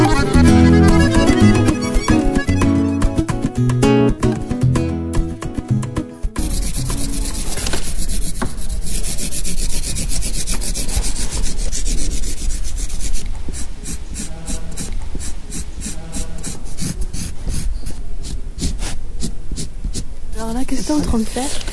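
After a few seconds of tonal music, steady scratchy rubbing of a pencil shading paper takes over as the shadows and highlights of wind-blown reeds are drawn in a black-and-white drawing, continuous and fairly loud, ending in a burst of quick, repeated back-and-forth strokes.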